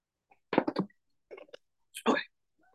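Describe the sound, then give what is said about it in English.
Someone takes a quick sip of water: a few short, wet slurping and swallowing noises in separate bursts, with brief pauses between them and no talking. “Let me get one little sip of water.”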